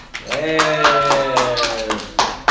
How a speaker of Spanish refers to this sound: Ahí se nos olvidó aplaudir cuando le damos. Ah, sí. Podemos aplaudir ahorita.